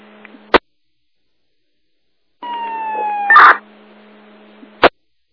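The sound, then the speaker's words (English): Fire dispatch radio alert tones from Herkimer County to Old Forge, calling for rescue manpower on Bald Mountain: a steady electronic tone holds for about a second, then jumps to a higher pitch in a brief burst, framed by sharp squelch clicks before and after. No one speaks. “Herkimer County to Old Forge, Second Tones.”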